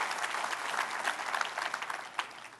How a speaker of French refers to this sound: Voulez-vous applaudir celui que nous élevons dans ce lieu? Applaudissez le nom de Jésus.